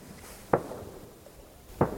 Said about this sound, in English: With no stores on Konok, hunting and fishing are especially popular. It's reindeer season when I visit. Can hear the gunshots echoing around the fjord.